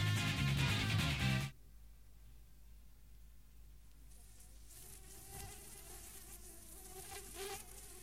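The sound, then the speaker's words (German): A housefly on a wall buzzes faintly, its wavering drone rising and falling in pitch as it moves around, following a brief louder burst of sound at the start. “Sie verfolgen die Fliege an der Wand.”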